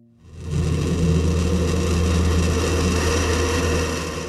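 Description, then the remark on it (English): A spring migrant bird's call that sounds like a garbage disposal: a loud, steady grinding whir with a deep rumbling hum, rising in quickly and holding for about four seconds, with no voices. “Sound more like a garbage disposal? Well, this species kind of is.”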